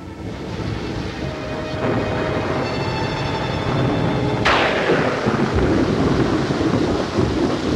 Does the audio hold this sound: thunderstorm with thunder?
yes